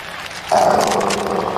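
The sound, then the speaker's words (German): A dog growls at an open-air concert, a rough, steady rumble that starts abruptly and holds for over a second against a noisy background. “Jake und ich hatten uns in Hunde gemorpht und schummelten uns so in ein Open-Air-Konzert.”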